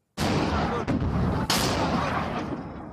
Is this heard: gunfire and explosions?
yes